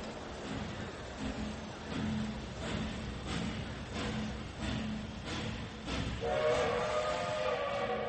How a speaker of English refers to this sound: They stood like that until the train was a long way from the station.